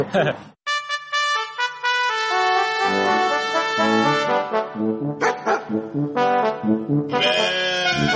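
Sheep bleat loudly on a pasture, several overlapping, drawn-out calls rising and falling one after another, with a brief quiet gap near the start and a wavering, quavering tone in the later cries.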